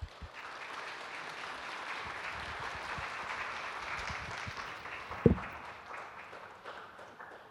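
An audience claps steadily for several seconds to welcome a speaker who is to give a message, a dense wash of many hands, with a sharp thump partway through before the applause gradually thins toward the end.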